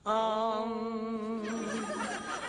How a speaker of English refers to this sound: I hear bells. Have I reached Nirvana? It's the phone.